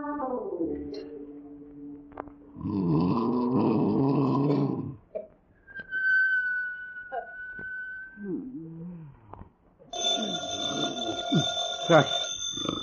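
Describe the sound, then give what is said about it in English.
A telephone rings loudly late at night in a family's home while the family sleeps, in two long, jangling bursts separated by a quieter stretch with a steady whistling tone and some rustling and vocal sounds. “Is that the phone? Oh, who on earth can be calling at this hour?”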